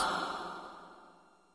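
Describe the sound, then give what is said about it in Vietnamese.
A slow, breathy exhale after a deep breath, a soft airy rush that gradually fades over about a second and a half, with no talking. “Hít vào hơi thở thật sâu, thở ra tĩnh lặng, nhiệm màu làm sao.”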